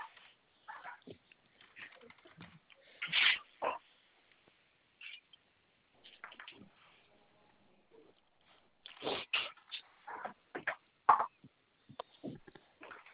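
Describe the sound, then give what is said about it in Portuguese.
A dog grunts and snuffles in short, irregular bursts, with quiet gaps between the wet, breathy noises and no talking. “Vem pra fora, cachorro.”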